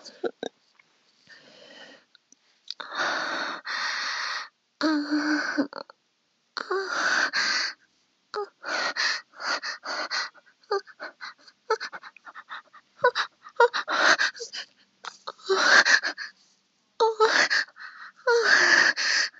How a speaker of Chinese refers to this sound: 我闭着眼睛，躺在椅子上，喘息着。